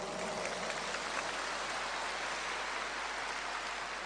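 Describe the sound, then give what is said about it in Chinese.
A steady wash of crowd applause, dense overlapping clapping that holds at an even, fairly loud level for about four seconds with no voices over it. “你们不鼓掌，我看不动”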